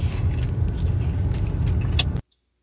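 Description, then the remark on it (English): Steady low engine and road rumble from inside a moving car, continuous and fairly loud, with a faint rattle near the end before it cuts off abruptly into silence. “I'm just riding around eating a tomahawk steak in my front seat.”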